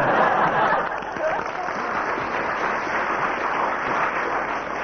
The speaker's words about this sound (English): First applause from the audience, so that has 3 marks.